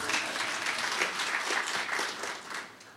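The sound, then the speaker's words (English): A crowd applauds steadily, many hands clapping in a dense, bright patter that holds fairly loud and even for a few seconds before starting to fade at the end. “Four, yeah, we can clap, yeah.”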